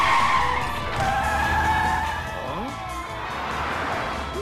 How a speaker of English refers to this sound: The cars ascend another staircase and skid onto the road.